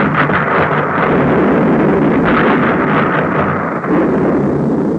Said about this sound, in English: The boom of depth charges dropped by destroyers racing through dangerous waters, barking of guns, music of brave men guarding a continent.